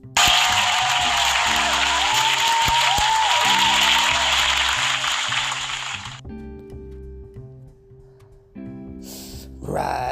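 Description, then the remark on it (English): A loud, dense burst of clapping applause fills the first six seconds over a low, steady musical bed, then cuts off, leaving the music until a short noisy burst at the end. “Round of applause for y'all.”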